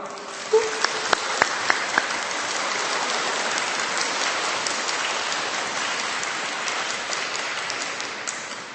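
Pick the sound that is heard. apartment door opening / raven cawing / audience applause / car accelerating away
audience applause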